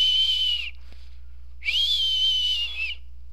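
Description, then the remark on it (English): Two long, high whistled notes with a small pitch bend at the start of the second, separated by a brief pause. The whistling is fairly loud, with no talking. “as my body is just sort of half floating, half drifting on the sand of the beach, you know, as the waves crest, and I just sort of, the dead body just drifts along and just keeps whistling.”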